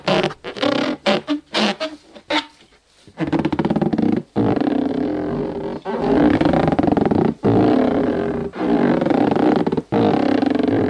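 A balloon being rubbed: loud, rough squeaking and groaning, first in quick choppy bursts, then in longer drawn-out strokes separated by brief pauses, with no voices.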